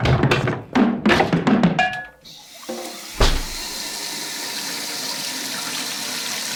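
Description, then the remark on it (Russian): A few quick knocks and a squeaky twist of a tap in a kitchen, then a steady rush of tap water pouring into a watering can, continuing evenly to the end. “Надо же снова воды набрать, чтобы она отстоялась и было чем поливать растения в следующий раз.”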